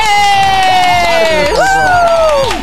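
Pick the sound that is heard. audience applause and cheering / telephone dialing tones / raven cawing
audience applause and cheering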